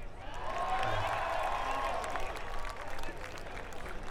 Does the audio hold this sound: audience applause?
yes